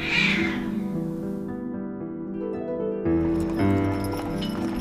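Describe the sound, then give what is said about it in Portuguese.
A cat meows loudly as it pounces on a mouse, a drawn-out, wavering cry that swells again near the end, with no voices around it. “Ao ver aquele pequeno animal velho conhecido, o gato partiu para cima dele e o comeu.”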